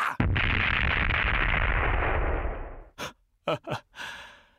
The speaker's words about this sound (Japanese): とびっきりの爆発岩だ。吹っ飛びやがれ。